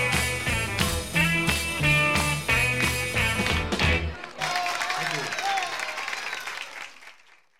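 A band plays a mid-1960s studio recording made to sound live, with rhythmic hand claps, then the music stops and a burst of crowd clapping and cheering takes over, gradually fading away.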